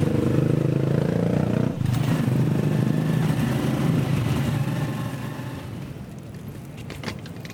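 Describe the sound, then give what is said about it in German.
A motorcycle taxi engine drones steadily with a low, buzzing hum and rattling clatter during a ride to the main square, the Plaza de Armas, in a town in Peru, briefly dipping near two seconds before easing off slightly as the ride continues; no voices. “Nach einem leckeren Jugo de Maracuja mache ich mich auf den Weg zum Hauptplatz. Natürlich mit dem Mototaxi.”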